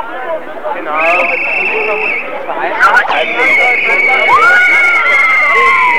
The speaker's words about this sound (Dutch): Er worden leuzen geroepen, DT Bundesweit. Dat ze ook in de hele Bondsrepubliek willen uitzenden. En er zijn zelfs mensen die roepen dat het Europees moet worden.